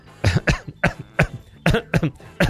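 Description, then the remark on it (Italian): A loud fit of coughing: six or seven harsh, chesty coughs in quick, uneven bursts with brief pauses between them and no talking. “Aspetta, perché sono positivo alla tosse in questo momento.”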